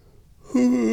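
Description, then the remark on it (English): A drawn-out yawn: after a quiet moment, a loud voiced groan rises and holds steady to the end, with no speech. “Why am I tired? Why am I yawning?”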